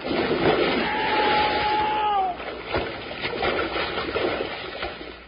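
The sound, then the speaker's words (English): Heavy splashing and churning water as big logs plunge into a lake, a loud, continuous wash of spray with a sharp smack midway and a brief high whistle early on. “We'll hit with a big splash, so hold on tight.”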